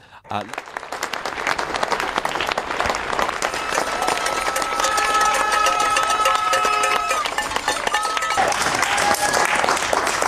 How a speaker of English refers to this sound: You turn your cast your mind back to the COVID era, that is people across the UK applauding health workers fighting to battle coronavirus.